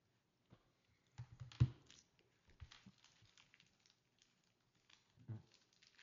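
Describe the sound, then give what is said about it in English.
Soft, irregular tapping of keys on a computer keyboard by a commissioner during a meeting, a few quick bursts separated by pauses, quiet with no one speaking. “He's typing. I was typing.”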